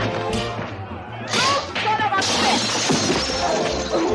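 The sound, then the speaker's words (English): A woman punches a man through a window during a brawl: a sharp impact sets off a loud burst of shattering glass, followed by a second crash as shards keep tinkling and scattering over a low, steady background. “A woman punches a man through a window.”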